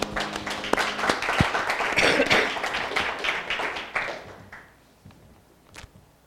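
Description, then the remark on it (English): A crowd claps in church, a dense, steady patter of many hands that swells, then thins out and fades after about four seconds, leaving a few scattered late claps. “clap in this church.”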